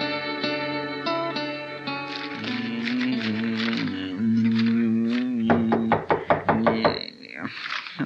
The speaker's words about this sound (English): Why don't you open the door? Maybe you'll find out, Chester. I never heard of nobody knocking on this door before.